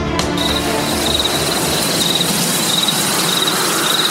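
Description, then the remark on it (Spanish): Crickets chirp in short, evenly spaced high-pitched trills, repeating steadily over a constant rushing wind blowing through tree branches, with no voices, on a cool, cloudy night in Tamaulipas, Mexico. “Solo se escuchaba el cantar de los grillos y el viento que pegaba en las ramas de los árboles.”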